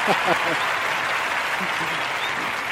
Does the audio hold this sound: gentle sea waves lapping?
no